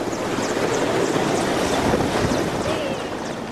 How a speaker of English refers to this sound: A helicopter landing at a base held by forces of the interim government, not far from the front line on the western side of Sirte.